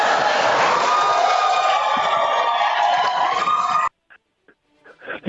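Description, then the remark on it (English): A large audience at a US presidential debate bursts into loud, sustained cheering and applause for nearly four seconds after a candidate's remark about jail, then it cuts off abruptly, followed by faint brief sounds and a voice starting up. “So much for the crowd supposed to be neutral.”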